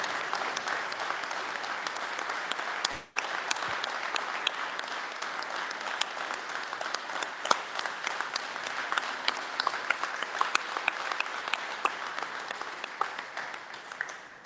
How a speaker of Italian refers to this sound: Quindi un altro applauso